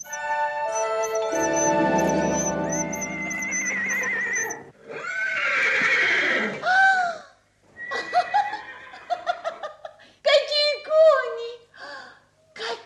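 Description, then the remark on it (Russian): A sustained shimmering, chiming tone gives way to a series of loud horse whinnies and neighs, several overlapping in quick succession with short snorting breaths between them. “Какие кони. Можно ехать, тетушка, можно ехать.”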